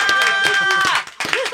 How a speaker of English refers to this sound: I'm never clapping early again.